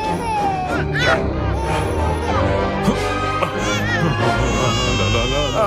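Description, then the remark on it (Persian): Several babies wail at once in a loud, overlapping chorus of cries, with rising and falling sobs continuing throughout and a busy, crowded background. “وای نه، یکی دیگه هم اینجا بیدار شده.”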